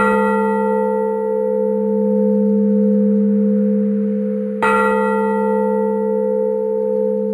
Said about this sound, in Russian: Восстановлен сам колокол, восстановлено его место, и он... Его голос восстановлен, голос Самсоневского собора. Тяжелый, звонкий, он сегодня один, он звучит как набат.